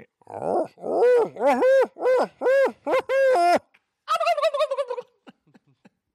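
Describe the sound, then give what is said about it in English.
A diaphragm game call imitating many animal voices, blown in a quick string of loud, rising-and-falling animal-like yelps, then a rapid high-pitched gobbling rattle that fades into a few soft clicks. “Get that diaphragm call out. Take us out with the many voices.”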